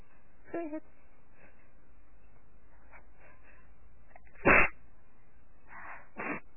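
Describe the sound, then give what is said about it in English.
A single sharp sneeze bursts out in the middle, loud and sudden, with a couple of faint, brief vocal sounds before and after it. “To sneeze.”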